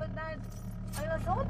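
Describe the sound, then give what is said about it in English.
Low, steady engine rumble fills a car cabin while parents talk in their family's dialect in short, indistinct bursts over the hum, their words muffled by the car and hard to make out. “I drift away into the back seat as the car muffles out their words.”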